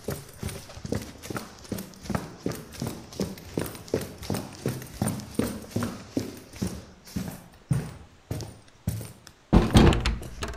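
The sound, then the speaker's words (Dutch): Quick, steady footsteps thump as someone runs down wooden stairs to let someone in at the front door, roughly two or three hollow knocks per second, fairly loud, ending in a sharper, louder clatter. “Ze rent snel de houten trap af om Ai, die terug voor de deur staat te wachten, binnen te laten.”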